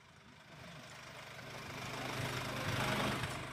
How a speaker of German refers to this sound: Da kann ich den Motor auch laufen lassen.